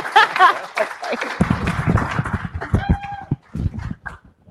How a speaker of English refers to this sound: Well done. Well done. Guys, give a round of applause.